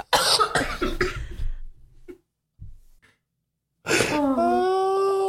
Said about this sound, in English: I can't start laughing. I'm never going to stop coughing.